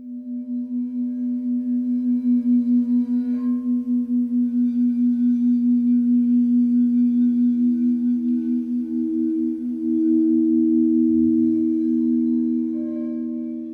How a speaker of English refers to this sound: listening to someone play tones on quartz bowls for an hour. They call them sound baths. Here's a sample from their website.